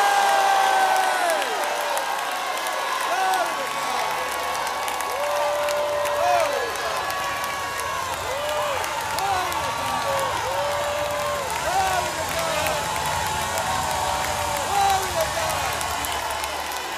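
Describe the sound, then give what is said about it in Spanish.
A large crowd stands and shouts to God, cheering and whooping together in a sustained, loud roar, with scattered clapping and individual voices rising above the din throughout. “Vamos, denle un grito a Dios.”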